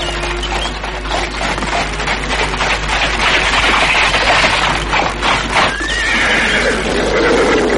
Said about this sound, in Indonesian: Kau dengar, ada suara kereta kuda datang. Oh, siapa itu yang datang?